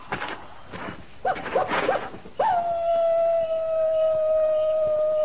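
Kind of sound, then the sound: animal, coyote howling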